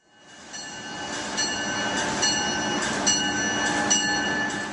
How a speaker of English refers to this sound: The sounds of high-speed trains may never tire for business commuters, but what does get old over time are the train's interiors.